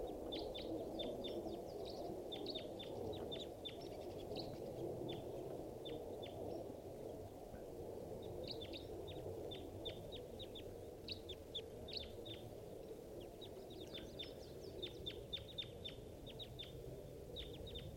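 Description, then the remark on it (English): A flock of about six crossbills, sitting in a big dead pine in a park, gives many short, high, sharp chip calls in irregular overlapping bursts. The calls are fairly faint over a steady low rumbling background noise. No one speaks. “And I see a flock of about 6 crossbills sitting in the big dead pine across the park.”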